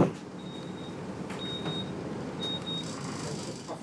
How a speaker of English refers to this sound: Anybody know why this bus is making this horrible noise? It's doing my head in. Now we've got squeaking and beeping. Oof.